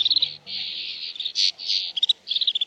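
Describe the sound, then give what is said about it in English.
A snow bunting sings a bright, high warbling song, with sustained buzzy phrases broken by quick chirping notes, clear with no talking. “Weather in the Arctic is still wintry when male snow buntings return to nesting areas in April.”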